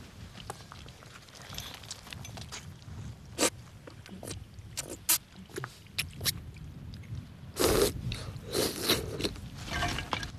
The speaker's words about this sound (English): He comes to a halt and sees a trickle of water running down a large slab of rock nearby. He pulls himself over to it with his ice pick and slurps at the flow, greedily sucking the water up off the rock.